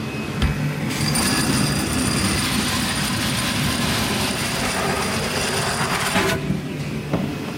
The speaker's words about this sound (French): Et maintenant, on prend l'aspirateur et on charge la cuve. Ah, vous allez aspirer les fèves,